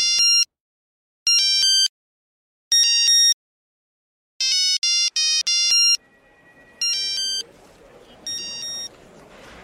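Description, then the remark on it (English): A new mobile phone rings with a bright, electronic melody played in short repeated bursts, loud, as a song ringtone; a faint hiss of background noise creeps in toward the end. “You know what that is, right? …, yeah. You have a new phone.”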